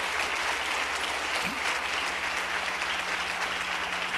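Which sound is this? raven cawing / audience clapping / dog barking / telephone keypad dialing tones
audience clapping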